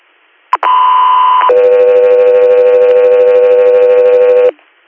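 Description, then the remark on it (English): A loud two-tone radio dispatch alert: a short click, then a steady higher tone for about a second, followed by a longer, lower, buzzier tone lasting roughly three seconds. No voices. “Go through air, standby for tones.”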